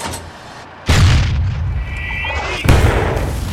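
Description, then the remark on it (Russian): Two heavy cannon shots from German anti-tank guns firing at a tank boom out loud, each leaving a rumbling tail, with a brief high whine ringing between the blasts. “Feuer frei auf den Panzer!”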